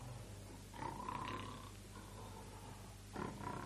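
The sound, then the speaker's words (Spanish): A wolf snores deeply, lying in the shade of a tree against its thick trunk: deep, rasping snoring with two drawn-out snores separated by a quiet pause, at a moderate, fairly soft level with no talking. “Al llegar allí, vieron con horror que a la sombra de un árbol, reclinado en su grueso tronco, roncaba profundamente y con la barriga hinchadísima el malvado y voraz lobo.”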